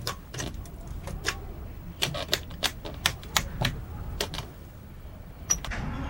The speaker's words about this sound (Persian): از شیشه شکسته در اتاق ناخدا رو باز میکنه. میاد تو. دکمه ها رو میزنه.